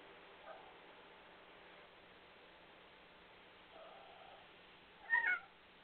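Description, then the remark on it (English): A cat lets out a short chirpy meow near the end, preceded by a couple of faint trilling chirps over a low steady hiss. No one speaks. “My cat decided to pray too, I guess, out loud. If y'all can hear my cat. Started chirping.”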